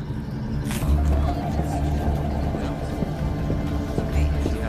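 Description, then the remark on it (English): A steady, low engine rumble from a car driving down a street, with a broad wash of road noise and occasional faint knocks and bumps, continuous throughout. “A car driving down a street may appear banal.”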